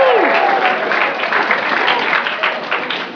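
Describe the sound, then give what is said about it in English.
A crowd claps steadily for people coming into the mosh pit area, in dense, continuous applause, loud and sustained throughout, with a brief falling tone at the very start and faint murmuring beneath. “Give them a round of applause as they come in.”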